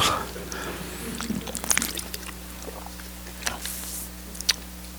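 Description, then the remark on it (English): Water is poured in short, uneven splashes and trickles, with a couple of sharper clinks, over a steady low hum. “Is there any water in here?”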